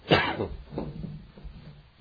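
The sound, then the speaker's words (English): A person coughs, one sharp, harsh cough followed by a couple of weaker, throaty coughs, with no talking. “And I hope I can quit coughing long enough to, do that.”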